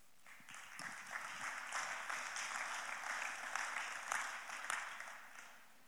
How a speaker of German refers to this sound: Das ist ein cooler Deal, wenn jemand anfängt zu klatschen, steigen alle volle Kanne mit ein.